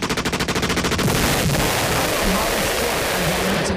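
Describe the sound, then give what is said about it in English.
A gunshot sound effect: a loud, rapid burst of automatic gunfire, about a dozen quick shots in an even rhythm, followed by a continuous roar of dense gunfire and noise lasting a few seconds. “I love those gunshots. I mean, you know, as a sound effect, not in real life.”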